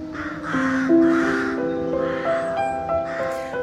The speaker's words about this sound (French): The sound that we can hear now, the rocks and the trees. Vous entendez donc tout ce bruit des corneilles, je pense, des rooks en anglais. En effet, le presbytère de Brontë, enfin donc la maison familiale, se trouve juste en bordure du cimetière.